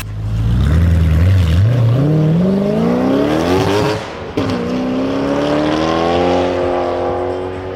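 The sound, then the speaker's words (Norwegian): A stiffly set-up car with no sound insulation roars loudly, its engine pitch climbing steadily through the revs, a brief drop around a gear change, then pulling hard again with a rough, throaty growl. No one speaks. “Men vi må litt tilbake til lyden, altså.”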